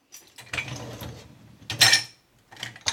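dishes clattering

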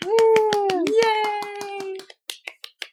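small group clapping

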